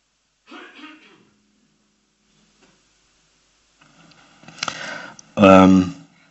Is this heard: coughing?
yes